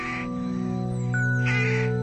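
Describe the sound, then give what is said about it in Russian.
Rooks caw noisily while settling to roost at dusk on a cold early-spring evening, in two harsh, raspy bursts, one at the start and another near the end, over a steady low droning hum that fills the background. “и, укладываясь на ночлег, шумно кричат грачи.”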